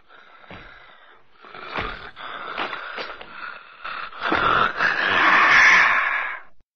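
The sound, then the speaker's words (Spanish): Heavy, raspy monster breathing in ragged bursts, growing louder and thicker until it swells into a harsh, sustained growl near the end. Alone, with no talking. “En ese momento, la respiración del monstruo comenzó a convertirse en un gruñido.”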